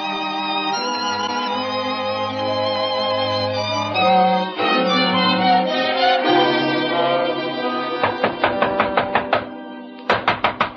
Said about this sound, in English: But that's no call to be pounding on me door so hard